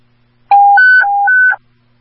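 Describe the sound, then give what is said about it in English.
Radio dispatch alert tones before a message to all second precinct units: a loud, clean electronic beep alternating between a low and a high pitch, four quick steps in about a second, with no talking. “Give me tones real quick, please.”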